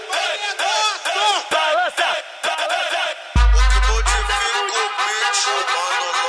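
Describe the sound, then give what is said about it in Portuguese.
A group of voices shouts together loudly and continuously, with overlapping rising and falling yells; partway through, a deep booming bass hit swells beneath the shouting for about a second. “que saudade do bonde gritando.”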